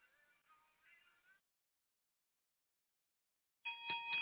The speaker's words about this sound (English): You hear that bell? Well, that's for those who received Jesus today for the first time and those who rededicated their lives.